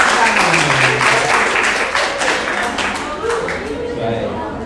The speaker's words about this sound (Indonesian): Tepuk tangan.